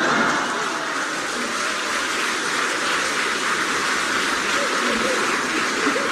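A loud, steady wash of splashing, churning water fills the whole stretch as something falls into water and the water roars around it, with no voices and no let-up in volume.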